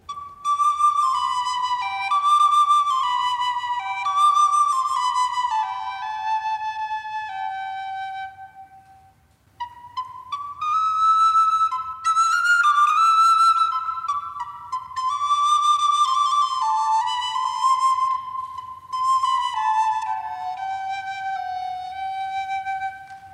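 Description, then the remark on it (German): A musician plays a recorder (Blockflöte) before an audience: a flowing, mostly descending melody in clear, pure tones, with brief trills and ornaments; a short pause near the middle, then the tune resumes with similar falling phrases. No voices. “Ein Kreuz muss nicht unbedingt Leid bedeuten, sondern kann wie das Musikinstrument Blockflöte Widerstand bedeuten.”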